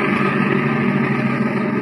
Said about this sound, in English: We plummet to the leader, and through a ventilator on the port side aft, lower our microphone until it touches bottom in the engine room. Ahoy there, engineer!